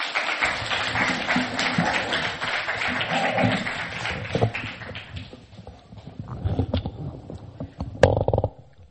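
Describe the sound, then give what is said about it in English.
A crowd at a temple claps together in a dense burst of applause for the car-parking volunteers, gradually thinning out into scattered, individual claps before fading away near the end. “So give them a round of applause.”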